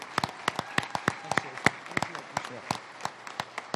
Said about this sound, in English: round of applause.